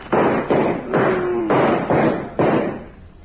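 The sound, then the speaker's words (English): Loud pounding on a door as someone demands that Miss Gephardt open up: about six heavy blows in a steady, insistent rhythm, each one booming and ringing briefly before the next. “Open the door.”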